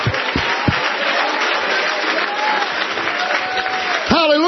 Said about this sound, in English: Somebody clap your hands and praise me.